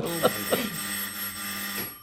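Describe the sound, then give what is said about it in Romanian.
A bell rings with a steady, sustained electronic tone lasting about two seconds, like a doorbell or telephone, with a couple of brief vocal sounds at the start. “Sună! A venit, a venit.”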